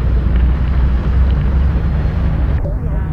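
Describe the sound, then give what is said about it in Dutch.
A heavy truck rumbles as it drives through a roadside verge, trying to reach a Shell petrol pump. Its deep engine drone is loud and steady throughout, mixed with rough, wind-like noise buffeting the microphone. “Vrachtwagen probeert alsnog bij de Shell-pomp te komen en rijdt gewoon door de berm heen.”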